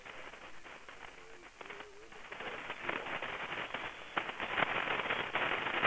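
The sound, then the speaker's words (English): Steady hiss of shortwave radio static with sharp crackles and pops, growing denser and louder toward the end, with faint warbling traces of a distant signal buried in the noise. “I got a lot of static, and I'm really struggling for the whole call.”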